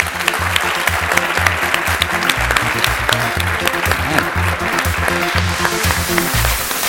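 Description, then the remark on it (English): An audience applauds panelists at a talk at Samsung KX, part of the CoLab event series, a dense, loud wash of clapping that holds for several seconds with a constant rhythm of overlapping hand claps and no voices standing out. “A brilliant round of applause to my panelists, please.”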